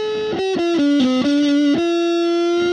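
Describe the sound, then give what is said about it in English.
An electric guitar with its distortion turned a little higher plays a short melodic phrase of sustained single notes with gritty overtones, then holds a final ringing note, fairly loud with no talking. “And here's the distortion turned a little higher.”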